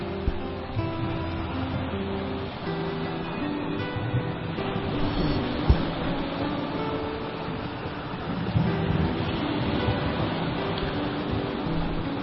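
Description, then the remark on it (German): Steady rushing water like waves washing in, with gentle swells rising and falling, blended with a soft sustained musical drone underneath. No one speaks. “Du genießt es, dem Element Wasser zuzuhören.”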